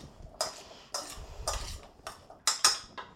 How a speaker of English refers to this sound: Put those in a bowl and drizzle them with about 1 tablespoon of olive oil. And then take a spoon and stir them up.